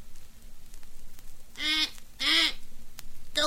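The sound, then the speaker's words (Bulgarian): A parrot lets out three harsh, raspy squawks, the first two long and close together and a shorter one at the end, loud, with no talking. “Повикайте който иде от моите папагали. Например, Лаура.”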